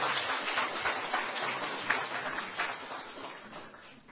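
A crowd applauds steadily, a dense, even patter of many hands clapping at once that holds its level for a few seconds before easing off slightly at the end, with no voices.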